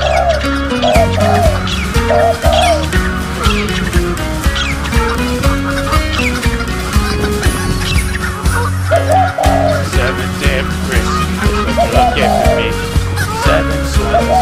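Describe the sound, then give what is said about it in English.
A flock of birds squawks, clucks and coos nonstop and loud, the calls overlapping into a dense, chaotic racket with a steady low rumble underneath. “Why did you give me all these goddamn birds?”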